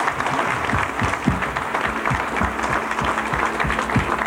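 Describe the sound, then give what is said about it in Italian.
An audience at a concert applauds a young woman steadily, a dense wash of many hands clapping at a fairly loud, even level with occasional sharper individual claps standing out, and no talking. “Quindi io farei veramente un nuovo applauso a questa ragazza.”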